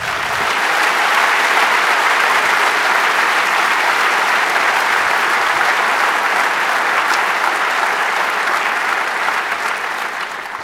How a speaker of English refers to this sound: their parents were very satisfied because they had a real professional team there caring care for the kids, which is a round of applause, I think, because we need...